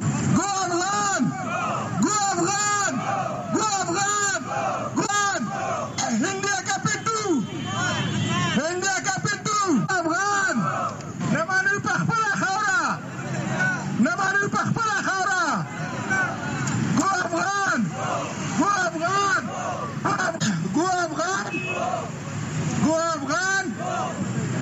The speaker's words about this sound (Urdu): مظاہرین نے اس موقع پر نعرہ‌بازی بھی کی.